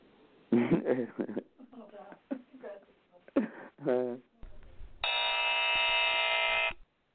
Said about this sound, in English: That buzzer's right on the spot.